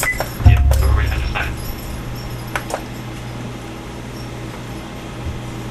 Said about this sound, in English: And this is my printer here, the fax machine. Let's see. I'll go and demonstrate it for you.